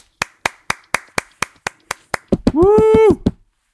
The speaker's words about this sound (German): Applaus. Sehr Applaus. Das war der Applaus.